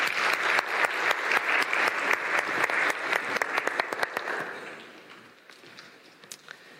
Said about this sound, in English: Perfect. Thank you so much. Could you guys give her a round of applause?